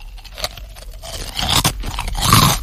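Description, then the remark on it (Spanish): Crunching of crispy ring-shaped Trisquis snacks, with irregular bites and chews that grow louder and denser toward the end, heard alone with no talking. “Cortezas. No. Trisquis. Correcto.”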